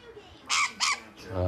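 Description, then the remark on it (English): A pet bird perched on a man's shoulder lets out two loud, harsh squawks in quick succession, followed by a man's voice starting to speak. “The bird's back on my shoulder.”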